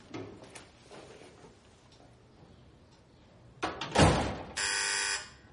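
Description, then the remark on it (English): After a couple of clattering thumps, an apartment intercom buzzer rings once with a steady, harsh electric buzz lasting under a second, fairly loud. “She comes back in and picks up the intercom.”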